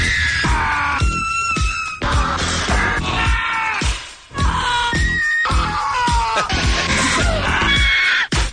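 Loud, abrupt film-style screams and yells spliced together in quick succession over a driving rock track, each shriek cut sharply into the next in time with the beat.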